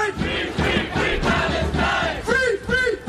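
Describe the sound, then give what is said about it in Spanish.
A large crowd of thousands protesting in central London against the far right and the wars in Gaza and the Middle East chants and shouts together, a dense roar of many voices with rising, rhythmic chant phrases near the end, loud and sustained throughout. “Miles de personas se manifiestan a esta hora en el centro de Londres contra la extrema derecha y las guerras en Gaza y en Oriente Próximo.”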